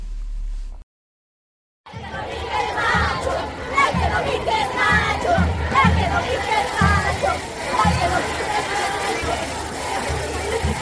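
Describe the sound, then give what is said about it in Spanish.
A large crowd of thousands of marching women shouts and chants together, a dense, loud roar of voices with rhythmic surges, after a brief moment of silence at the start. “Miles que gritan, claman, brincan, bailan y también son capaces de guardar silencio con el puño en alto.”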